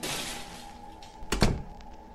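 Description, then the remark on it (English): A closet door swings shut with a solid thunk, a quick double knock of wood meeting the frame, over a steady background hiss with no voices. “Jamie closes the gate and then the closet door.”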